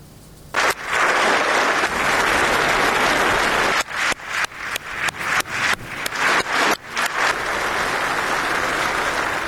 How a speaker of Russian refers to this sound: На заседание в качестве почетной гости пригласили жену президента Украины Елену Зеленскую. Ей аплодировали стоя.